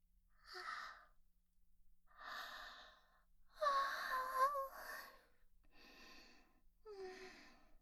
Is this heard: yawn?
yes